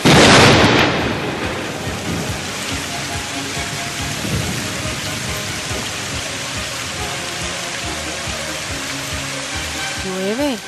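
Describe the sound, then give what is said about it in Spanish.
Heavy, steady rain hisses throughout a thunderstorm with lightning, opening with a loud crack of thunder that rolls away beneath the downpour. “vamos, llueve, hay truenos, hay relámpagos, hay centellas, esto es tremendo, qué temporal más malo.”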